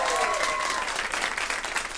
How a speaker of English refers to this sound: Round of applause